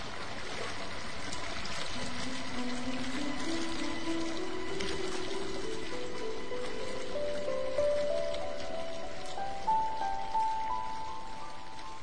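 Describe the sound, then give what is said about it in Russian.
Water pours steadily into a bathtub that is being filled to the brim, a constant rushing hiss with a hollow tone that rises slowly in pitch as the tub fills. No voices are heard. “Я знаю, что сейчас наполню ванну до краев, а потом лягу в нее.”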